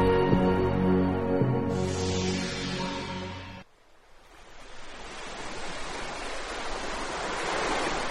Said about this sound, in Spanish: El mar golpea la roca llena de un verde intenso.